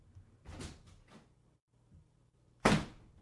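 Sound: door opening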